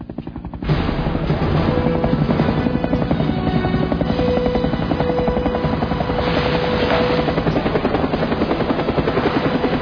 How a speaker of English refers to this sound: There's a helicopter hovering over town hall. Looks Russian.